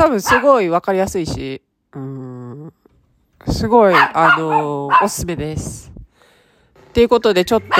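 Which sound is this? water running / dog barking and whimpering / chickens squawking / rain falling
dog barking and whimpering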